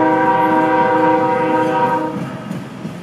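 A steam train rumbles past, its horn blaring a loud, sustained chord for about two seconds before cutting off, leaving the rolling clatter of the cars fading slightly. No voices.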